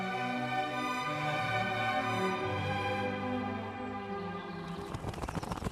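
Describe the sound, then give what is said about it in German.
A sustained, tuneful musical passage gives way near the end to a burst of rapid wing flapping, like a crow swooping in and landing. “Erst einmal einen schönen guten Abend, liebe Krähe.”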